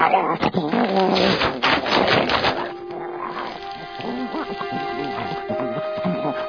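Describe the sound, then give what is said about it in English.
A male dog gives a few sharp barks, then shifts into drawn-out, high whimpering whines, with a busy, noisy background throughout. “And the last item is one $1,200 dog. Is that him?”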